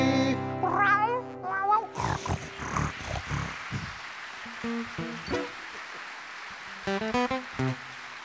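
A cat meows in several drawn-out, pitch-sliding cries, followed by a rough, noisy stretch and a few shorter meows near the end, clear.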